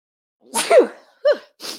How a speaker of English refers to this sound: Oh, I got to sneeze.